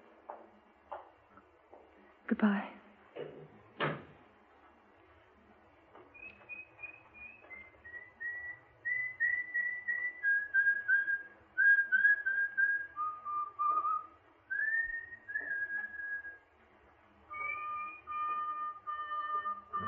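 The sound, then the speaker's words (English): After a few sharp knocks, someone whistles a long string of clear, steady notes that step up and down in pitch as a signal, moderately loud, with no talking. “And when you get into the street safely, don't forget to whistle.”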